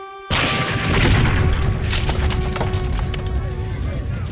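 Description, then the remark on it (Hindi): After a brief quiet moment, a bomb blast in an attack on Gandhi in Pune bursts in suddenly and loudly, followed by a heavy, sustained rumble with scattered crackles and debris-like clatter that carries on to the end. “जो इंसान सच के मार्ग पर चलता है उसे ऐसे धमाके विचलित नहीं कर पाते।”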